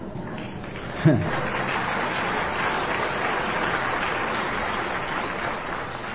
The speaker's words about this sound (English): A half clap over there.